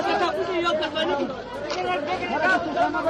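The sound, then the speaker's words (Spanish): A chaotic crowd at the gates of Kabul airport, Afghanistan, at the Abbey Gate, after explosions, many voices shouting and calling over one another in a dense, continuous babble of agitated chatter without pause. “La principal se registró a las puertas del aeropuerto de Kabul, que provocó, como escuchamos, el caos, justo en la conocida como la Abbey Gate, la puerta por donde desde hace 12 días se amontonan miles de afganos que esperan entrar en ese aeropuerto.”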